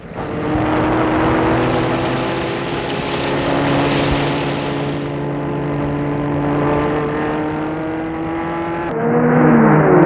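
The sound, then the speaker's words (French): A car engine roars loudly, holding a steady droning hum with rushing noise, then revs higher near the end as the car speeds off fast with a wounded man in the back. No one speaks. “Le blessé est mis derrière et démarre en vitesse.”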